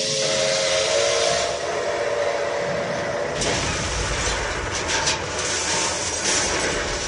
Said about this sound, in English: On three occasions, Iowans came to see the head-on crash of locomotives, a sound recreated in a display at the Fair Museum.